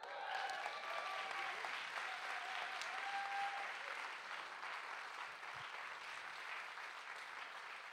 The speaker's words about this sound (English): Yes, you can cheer for that.